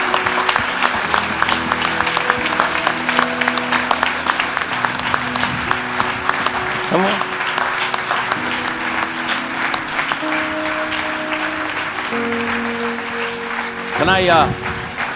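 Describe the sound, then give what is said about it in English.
An audience at a meeting applauds steadily for about fifteen seconds, a dense, continuous patter of many hands, with sustained musical tones underneath and a voice briefly rising above the clapping near the end. “Est-ce qu'on peut les applaudir so encore bien fort simplement venir.”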